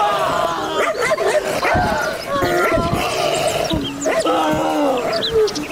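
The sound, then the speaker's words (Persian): A dangerous dog barks and yelps aggressively in loud, rapid bursts throughout, with a person's agitated voice mixed in among the barks. “حالا که نخوریم، او از برای خدا چی یک سگ خطرناک است.”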